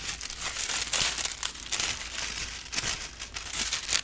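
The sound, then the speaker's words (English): Continuous paper crinkling and rustling as sheets are pulled apart and separated, with brief crisp bursts of crackle throughout and no voices. “Oh, there's more paper to get apart and separate them.”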